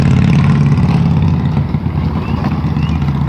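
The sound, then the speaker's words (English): A loud motorcycle engine rumbles as it passes with its radio blaring, a deep, steady roar that holds for a few seconds with slight wavers in revving and no voices over it. “As if the motorcycle wasn't loud enough to have the radio blaring.”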